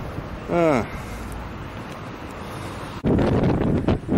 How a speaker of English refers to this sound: This is horrible here. It's windy. Very bad.